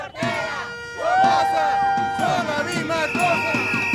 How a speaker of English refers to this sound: Men and women dressed in white and carrying Nicaraguan flags chant Ortega Somoza, are one and the same, comparing the former revolutionary rebel to the dictator he and his Sandinista rebels helped overthrow nearly 40 years ago.